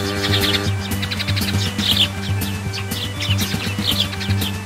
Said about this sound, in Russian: Воробей сорвался с ветки, столкнул крылом меня и Костю и, отчаянно чирикая, рванулся вперед, показывая нам направление.